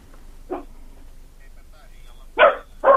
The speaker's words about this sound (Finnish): sähän tarjoat meille sieltä tuommoista reipasta koiran haukuntaa. Joo, kyllä joo, joku tuli kotiin tuossa.